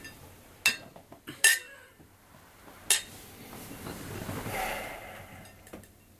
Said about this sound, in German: So, da sind wir wieder zurück und würden sagen, wir stoßen jetzt mal mit unserem frischen Glas, eiskalt, mit Olive an.